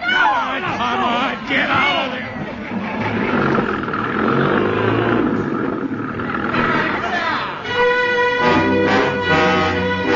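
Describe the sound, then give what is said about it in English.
A truck engine starts, then roars and revs loudly, its pitch rising and falling throughout, with a brief dip before a strained, higher whine near the end; muffled voices mix in underneath. “Boys, there's a truck. That's what we need. Stop the engine.”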